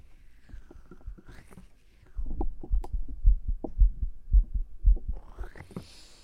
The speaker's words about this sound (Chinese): 总是找不准心跳的地方。